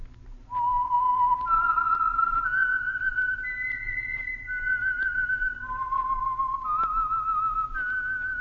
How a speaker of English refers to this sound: And for Sunday evening listening pleasure, the signal to listen for is this whistle that identifies the Signal Oil Program, The Whistler.